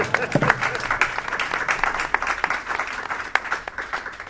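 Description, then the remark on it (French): An audience breaks into steady applause, a dense crackle of many hands clapping that holds fairly even for several seconds, with a few sharper claps standing out. “Je remarque que vous ne m'applaudissez pas.”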